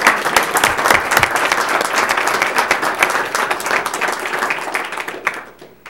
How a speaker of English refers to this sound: And again, these people they deserve a round of applause.